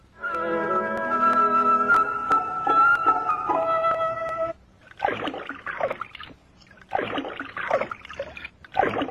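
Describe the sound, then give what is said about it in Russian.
A raccoon sitting by a stream dunks and swishes something in the shallow stream water, making uneven bursts of splashing and sloshing. The splashing follows a few seconds of steady, musical-sounding tones, with no talking. “Вот и сейчас я вижу енота, сидящего у ручья и окунающего что-то в воду.”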